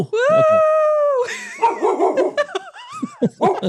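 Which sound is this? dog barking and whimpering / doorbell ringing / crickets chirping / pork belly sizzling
dog barking and whimpering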